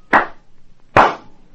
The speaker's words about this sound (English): For example, listen to these two sounds produced here simply by clapping my hands twice in rapid succession.